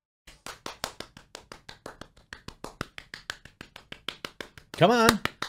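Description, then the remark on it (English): Single hands clap steadily in a quick, even rhythm, about five sharp claps per second, then a brief burst of voice cuts in at the end. “You gotta clap.”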